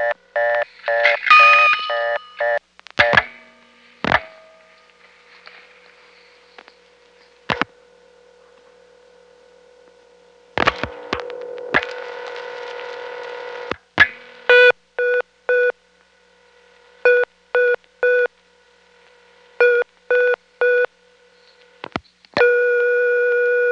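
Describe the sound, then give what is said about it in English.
Payphone test sounds: sharp mechanical clicks as a coin is deposited and returned during ground and loop resistance tests, then three short, bright electronic beeps showing the tests passed, over a steady continuous high tone signalling to hang up for the loop leakage test. No one speaks. “The 3 beeps indicated that those tests were passed with flying colors, and now we're sitting on a continuous high tone, which is the signal that I'm supposed to hang up to initiate the next test, the loop leakage test.”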